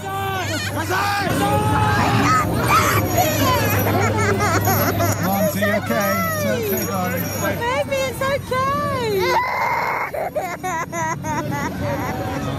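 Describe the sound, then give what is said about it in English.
Several children wail and scream over a dense crowd hubbub at a Santa (Miklós) parade in 2018, as his demon helpers appear, their high, wavering cries rising and falling continuously, with a steady low hum running underneath. “There are crying children, including my own. That's a lot of screaming and terror for a Santa parade.”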